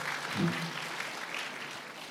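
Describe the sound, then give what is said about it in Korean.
A brief burst of audience applause welcoming a reading and a final live song, dense scattered clapping from a small group, steady throughout at moderate loudness with no voices over it. “그리고 마지막 라이브 박수로 청해 듣겠습니다.”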